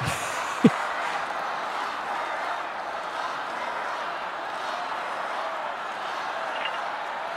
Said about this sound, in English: Lock her up, they're cheering.